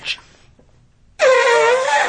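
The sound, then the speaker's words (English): A person imitates an elephant trumpeting: after a brief pause, a single loud, sustained, brassy blare with a rich harmonic tone starts abruptly and holds for about a second. “I'm getting my elephant.”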